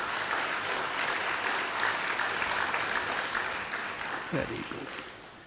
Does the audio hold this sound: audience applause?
yes